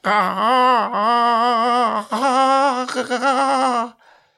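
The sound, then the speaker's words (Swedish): A voice imitates the strange scream of the ugly duckling in the fairy tale, stretching its neck after the swans: a loud, wavering, high wail held in long drawn-out bursts with a quavering pitch, breaking off abruptly at the end. “Det var ett skrik som lät så annorlunda att han själv blev skrämd.”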